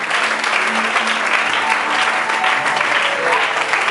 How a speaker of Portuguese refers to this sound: Vamos receber o servo de Deus aplaudindo o rei bem forte.